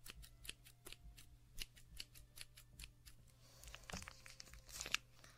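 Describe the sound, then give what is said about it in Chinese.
Scissors that do not seem to work well snip repeatedly at a milk packet, a quick run of sharp clicks, followed by louder crinkling and tearing of the plastic as it is cut open to drink the milk. No one speaks. “剪刀好像不好用，等着去买个新的。”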